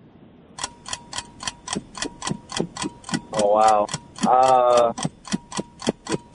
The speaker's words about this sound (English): All right, there's a timer.